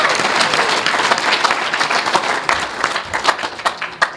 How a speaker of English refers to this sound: So I want to thank the committee. Can we just give them one more big round of applause?